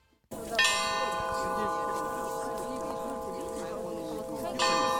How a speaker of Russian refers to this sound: День в день, 27 января, в минувшую субботу, над ледовой дорогой жизни звучал поминальный колокол по жертвам войны и блокады.